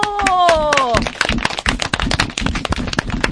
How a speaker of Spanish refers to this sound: ¡Un aplauso!